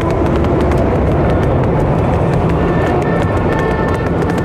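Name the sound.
running footsteps sound effect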